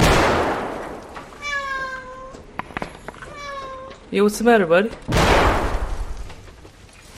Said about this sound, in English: So real quick, this is the cat barfing on the computer while the guy is live streaming.